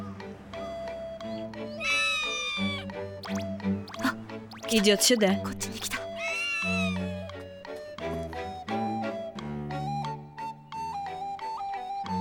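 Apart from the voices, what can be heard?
cat meowing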